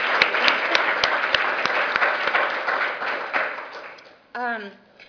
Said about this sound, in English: And so I definitely want to give a round of applause to these interns because they really did an excellent job.